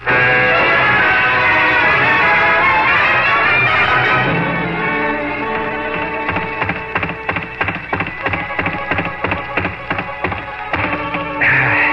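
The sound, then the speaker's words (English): A boxer's fists pound a punching bag hard enough to wear it out, a rapid, steady rhythm of sharp thuds, starting a few seconds in and continuing over sustained music. “You wore out another punching bag.”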